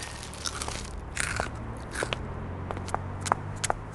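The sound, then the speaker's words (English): Crisp crunching of crunchy broccoli clumps from a king-size tub, with a string of sharp bites and crackles in an irregular chewing rhythm, heard alone without any talking. “Here's your change, and here's your king-size tub of crunchy broccoli clumps.”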